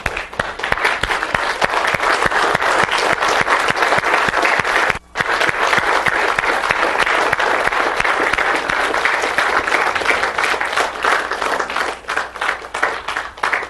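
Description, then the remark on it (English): Sustained, loud standing applause from a large audience in a church, dense overlapping claps continuing steadily with one brief dip before carrying on, no speech over it. “I think we ought to stand and give this church a good round of applause for all they've done in serving us this week.”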